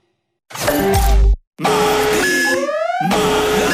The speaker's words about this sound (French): Cette alarme, c'est pour que je me souvienne que c'est le mardi malin chez Pizza Hut.